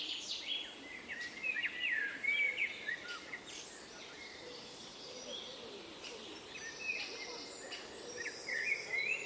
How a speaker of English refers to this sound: Ambience, Sunday, May 30th, 2021, 7:55 a.m. A small path between railroad tracks in the back of a residential area in Essen. Ambient sound of dead wood with a woodpecker's hole. Overgrown woods. Recording.